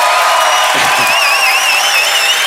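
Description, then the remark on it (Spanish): A crowd applauds and cheers steadily for a couple of seconds, a dense wash of clapping with high, wavering whistles or whoops riding on top. “que no aplaudáis las cosas antes de tiempo porque...”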